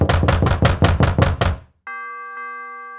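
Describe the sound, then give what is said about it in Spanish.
A rapid, steady series of about eight loud knocks on a door, followed by a sustained ringing chime like a doorbell. No one speaks. “De pronto, Flautista oyó que tocaban a su puerta.”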